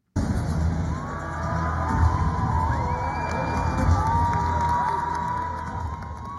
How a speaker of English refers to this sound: And I have a piece of tape from late last year in Tehran of crowds gathering to celebrate a new statue they want to play for a second.